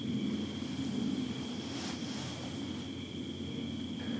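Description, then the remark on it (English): A steady, droning engine rumble, like an airplane passing overhead, holds at an even level throughout, with a thin high whine riding above the low roar. No voices. “People like to fly their planes in nice quiet places.”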